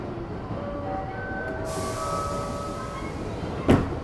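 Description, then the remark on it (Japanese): The Ginga sleeper express train bound for Tokyo rolls into platform 10 of a station with a steady low rumble and thin, drawn-out metallic squeals, ending in a sharp clunk near the close. No voices are heard. “10番乗り場に到着の列車は寝台急行銀河号東京行きです。”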